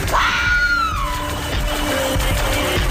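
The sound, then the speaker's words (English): A single drawn-out cat meow rises and then slides downward over about a second, clear, followed by a steady background hum with no talking. “The black cats we decorate Halloween with today came from a belief that the cat, nocturnal by nature, was a witch's spirit, but in animal form.”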